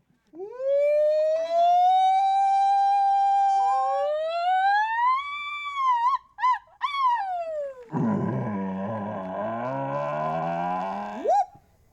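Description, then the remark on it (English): A person imitates Sasquatch calls at the annual Sasquatch Festival and Calling Contest in Whitehall, New York: a long rising moan that swoops upward, a few sharp wavering scream bursts, then a rough, growling roar ending in a quick upward yelp. Loud, with no talking. “But don't let the moans and screams scare you.”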